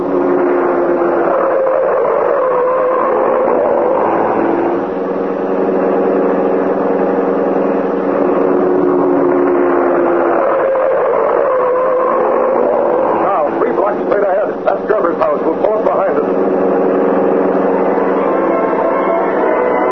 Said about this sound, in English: the car of the Green Hornet went through the city streets. So fast was it, and yet so easily did it handle that the Black Beauty could make twice the speed of ordinary cars with more safety.